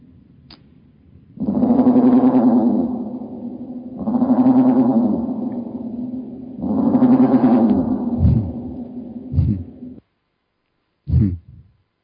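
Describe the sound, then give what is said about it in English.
Three long, deep, drawn-out raven croaks played at slowed speed, each one echoing and reverberant, followed by a few short low thuds, a brief silence and one final thump. “This raven actually has some reverb on him, well, like he's in a cave or something.”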